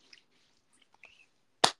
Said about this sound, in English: That was me slapping my thighs. Ooh, let me slap my thighs with the body milk on my hands.